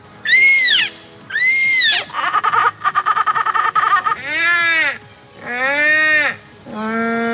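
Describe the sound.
A young competitive bird caller imitates Australian bird calls: two shrill squawks, a rapid chattering cackle, then a series of loud, swooping wailing cries.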